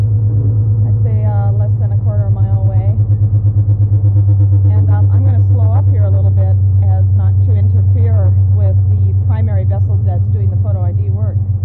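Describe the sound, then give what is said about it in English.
A loud, steady boat engine drones with a constant low rumble throughout, heard on the bridge of a boat out on the water among killer whales, while a person talks over it. “We're on the bridge of the boat Lucky Star.”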